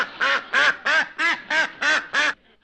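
A duck quacks seven times in a quick, steady rhythm, each call loud and nasal, with no voices in between and a brief quiet tail at the end.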